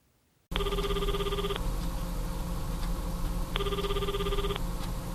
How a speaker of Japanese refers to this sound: なるみ、あんた携帯鳴ってるわよ。リビングに置きっぱなし。